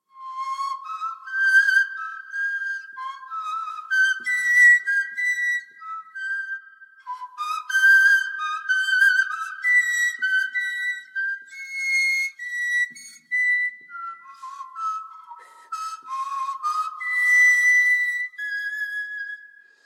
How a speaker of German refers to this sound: hat sich von diesem Steinzeitinstrument inspirieren lassen und spielt auf einem Nachbau der Gänsegeierknochenflöte. Vielleicht hat sie so ähnlich geklungen, die früheste Musik unserer Vorfahren.